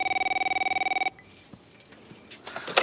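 telephone ringing

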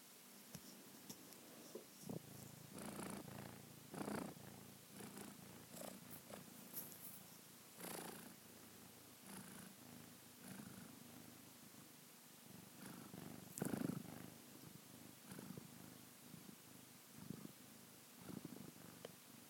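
kitten purring

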